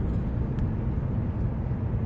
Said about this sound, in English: It's a semi tow truck.